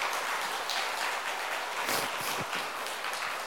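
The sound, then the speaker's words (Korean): A crowd claps steadily throughout, a dense wash of many hands with no pauses, fairly loud and even, with no talking over it. The applause celebrates a baptism at Dream Church, a Presbyterian Church of Korea audience. “박수로 축하하겠습니다.”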